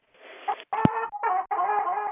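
A rooster crows loudly in a few drawn-out, broken phrases, with chicken clucking mixed in and a sharp click partway through. No one is talking.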